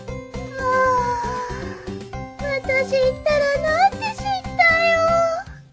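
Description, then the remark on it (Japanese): A calico cat meows repeatedly in drawn-out, wavering cries, fairly loud, several calls in a row over a low steady backing of music. “ああ、三毛猫さんだ。”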